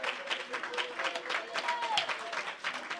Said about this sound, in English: Come on, everybody, just clap your hands for Jesus. Clap your hands for Jesus. Clap your hands for Jesus. Clap your hands for Jesus.